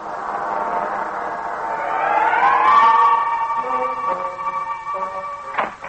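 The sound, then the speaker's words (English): A siren wails, its tone climbing to a peak and then holding steady, fairly loud over a low background rumble with no one speaking. “Every second I'm in the street, I'm waiting for that blessed siren.”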